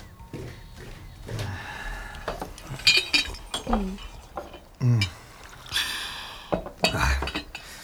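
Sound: tea poured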